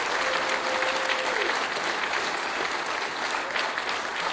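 An audience applauds steadily for a band as it is announced at an evening show, a dense wash of clapping that stays loud and even throughout, with a faint whistle-like tone briefly audible early on.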